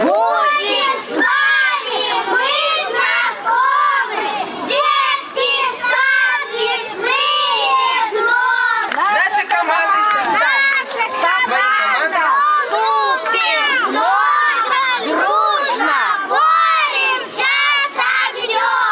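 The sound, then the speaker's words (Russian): A group of young children, a team at a competition, shout and chant their team name and motto together in loud, excited voices, a dense, continuous chorus of high-pitched calls filling the whole stretch with no quiet gaps. “Соревнования начались с представления названия команды и ее девиза.”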